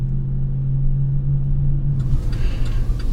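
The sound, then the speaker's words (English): A car cruises south along a highway in heavy traffic with a steady low rumble and an engine hum, while road noise swells and grows brighter partway through. No one speaks. “Not sure if this is the last or second to last or third to last rest stop, but traffic sucks, so I'm gonna stretch.”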